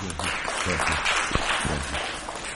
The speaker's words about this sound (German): Wir geben einen Applaus.